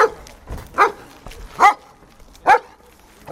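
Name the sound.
police dog barking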